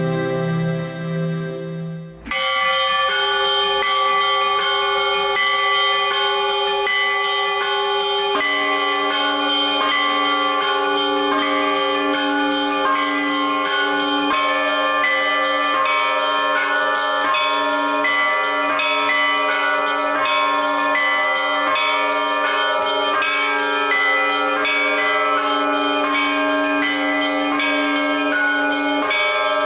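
The bells of a church ring out loudly and continuously across the surrounding area, their overlapping metallic tones layering into a rich, sustained peal that fills the air without any talking.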